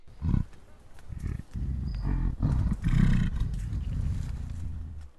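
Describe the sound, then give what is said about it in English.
A gorilla's belch vocalization, an expression of well-being: a deep, throaty rumble that rolls on in uneven low pulses for about five seconds, moderately loud, with no talking over it. “A belch vocalization.”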